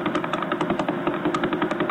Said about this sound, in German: And this is what this guy does 24/7, day and night, 365 days a year. This is what, from 1,000 light years away, the Vela Pulsar sounds like right now.